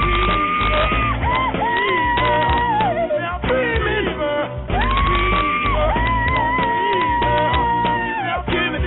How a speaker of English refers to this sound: I don't know what the hell all the screaming was about.